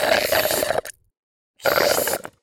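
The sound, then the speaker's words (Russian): Two loud, gurgling slurps, like someone sucking up the last of a milkshake through a straw, each lasting under a second with a short silent pause between them. “Когда через трубочку собираешь последний глоток со дна.”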